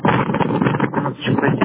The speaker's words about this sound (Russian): Тут ветер такой дует.